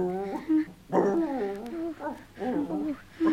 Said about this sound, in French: Soudain, Capitaine s'arrête net devant un grand chêne et se met à aboyer d'un air tellement inquiet que Moutier s'approche de l'arbre.